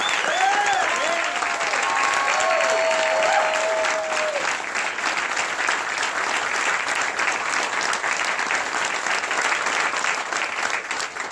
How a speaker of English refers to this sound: Thank you to all the veterans in the audience as well. Now, give him a round of applause.